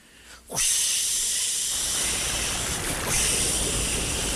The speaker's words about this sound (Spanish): Aquella mañana, todo era lluvia en el Cerro del Rebote.